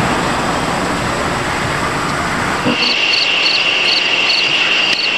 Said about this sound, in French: comme on peut l'entendre sur les enregistrements de Ed, oui, de jour comme de nuit, il y a de l'insecte